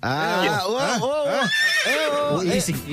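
horse neighing

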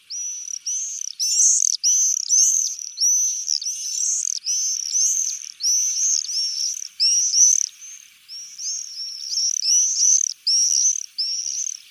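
common swift calls

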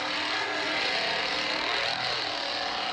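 chainsaw running

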